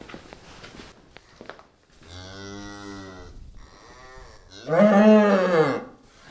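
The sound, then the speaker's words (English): A mother cow with a newborn calf, in a barn at a cow-calf unit, lets out two deep, drawn-out moos warning someone to stay away, the second louder and more urgent, after a few soft rustling footsteps. “Mom just told me to stay away.”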